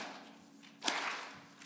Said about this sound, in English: All right, ready? Clap with me.